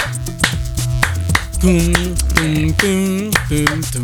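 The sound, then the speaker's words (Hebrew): Sharp hand claps tap out a syncopated clave pattern, an African-rooted rhythm used in Cuban music, crisp and evenly loud, over a steady musical backing with a wavering melodic voice or instrument. “רגע, אתה חייב לעשות לי רגע, אתה חייב לעשות לי רגע את המקצב עם איזה קליקים או משהו, כי אני לא, לא, אני חושבת שהמאזינים שלנו, אנחנו צריכים רפרנס”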